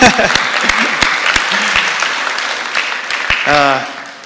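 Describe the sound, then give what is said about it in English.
A church audience applauds the fathers on Father's Day, a dense wash of many hands clapping with a few sharp individual claps standing out, while brief voices and a short vocal exclamation rise near the end. “Yeah, clap for those fathers.”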